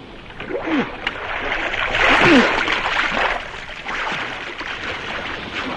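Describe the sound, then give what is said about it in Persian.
In a Moby Dick story, a ship captain's rowboat is quickly lowered into the sea, meeting the water with continuous, rushing splashes that swell to a loud peak midway, then settle into steady sloshing, with faint creaks and muffled voices in the background. “زود قایق منو با آب بندازید.”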